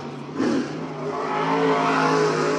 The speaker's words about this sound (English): Bobby drives his car back to the pit stop after finishing a few laps.